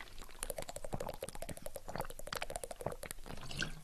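Someone drinking from a glass: a steady run of wet slurps, gulps and small liquid clicks lasting a few seconds, fairly loud, with no talking.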